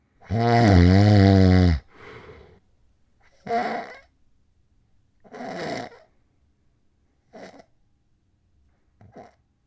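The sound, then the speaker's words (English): Snoring with sleep apnea: one long, loud, rattling snore, then a series of shorter snorts and choking breaths broken up by uneven silent pauses, as the sleeper's breathing keeps stopping and restarting. “Okay, but now here is what's called sleep apnea.”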